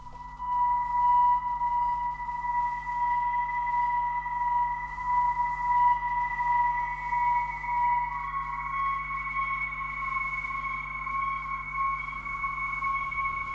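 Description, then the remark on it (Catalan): A soundtrack piece from the Chernobyl miniseries plays on its own: a steady, eerie electronic drone with sustained high tones that shift slightly in pitch partway through, with no voices and a constant low hum underneath. “Una altra dada curiosa és la cançó que estàveu escoltant de fons, és de la banda sonora de la minissèrie.”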